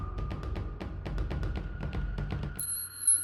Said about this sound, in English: The school chime whispered in the dark. Soon they would be coming out of the gates, but it is closed now.